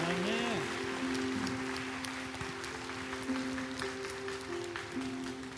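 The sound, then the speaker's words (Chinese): A church audience claps steadily in praise of God during worship, a dense, continuous patter like rain, over a sustained low organ or keyboard drone with a brief gliding tone near the start. “神要在我们灵里深处做的工作，如果这也是你的祷告，帮我们拍手赞美神。”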